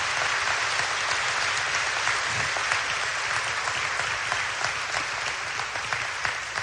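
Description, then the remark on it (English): An audience claps steadily for several seconds, a dense, even wash of applause that holds at full strength without fading, for four Recovery Community Foundation scholarship winners at a school. “Let's give these four Recovery Community Foundation scholarship winners a round of applause.”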